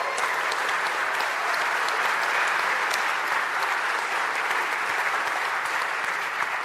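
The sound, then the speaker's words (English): Sustained audience applause celebrating St. Christopher finishing the year in the black, a dense wash of many hands clapping at an even, fairly loud level for several seconds, with no voices standing out. “and yet, ladies and gentlemen, and get your applause machine ready, we finished the year in the black, praise God.”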